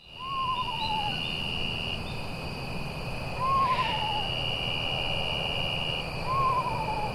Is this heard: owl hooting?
yes